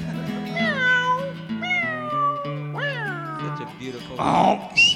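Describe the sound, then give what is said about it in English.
A bunkhouse cat that has been stepped on lets out three loud, drawn-out yowls that slide downward in pitch, spaced about a second apart over low sustained musical tones, followed by a short noisy burst. “Oh, we stepped on the bunkhouse cat.”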